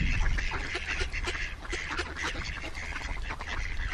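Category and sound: bird, ducks quacking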